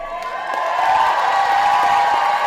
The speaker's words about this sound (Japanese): パースの空港に到着したムスタファ医師は歓声と拍手で迎え入れられました。